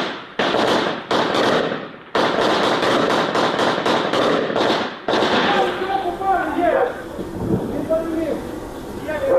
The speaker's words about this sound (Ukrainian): Працюють хлопці по російському FPV-дрону, який підлетів дуже близько біля сітки. Зрозуміло було, що він іде на удар. Намагаються відстрілюватися. Але дрон в небі.